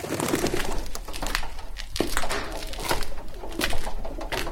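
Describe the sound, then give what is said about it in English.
Doves coo softly and repeatedly inside a flower-shaped dovecot, a pigeon tower, in Mardavich, Isfahan, Iran, their low murmuring calls reverberating and overlapping with scattered flutters and rustles, no talking present. “Yes, it's the sound of doves.”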